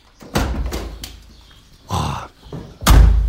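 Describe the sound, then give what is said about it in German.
Rustling and shuffling movement as people get into a 1989 Renault R4, followed by a loud, heavy car door slamming shut, its low thump ringing briefly at the end. “Wir können mal einsteigen.”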